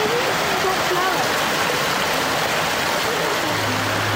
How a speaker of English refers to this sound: You might be able to hear that in the Costa Rican area of the rainforest biome. There's this mini little waterfall, this little stream running through it all. Listen.